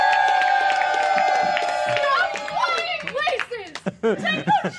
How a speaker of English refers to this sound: Joining us tonight is that very hero. Let's hear a round of applause as we welcome to the stage Coffee Pot Flight Attendant.